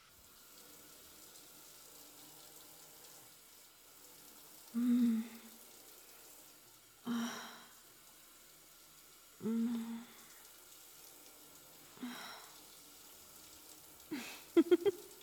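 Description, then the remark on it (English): A steady hiss of running water from a shower someone is taking fills the background, broken by several louder splashing bursts at irregular intervals, with a quick cluster near the end. “I need to jump in a shower.”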